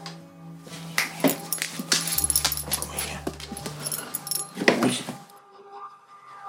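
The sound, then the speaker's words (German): A dog, asked to speak, makes a few short whines and a brief bark-like yelp amid constant metallic jangling, like tags or keys shaking, with a low steady hum underneath. “Sag mal Wuff.”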